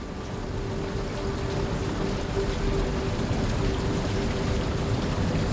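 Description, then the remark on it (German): Steady rain patters at night on the windows of a library in a dense, even wash of soft taps, like drops striking glass, with a faint low hum underneath and no voices. “Es hat zu regnen begonnen und die Regentropfen klopfen leise an die Fenster.”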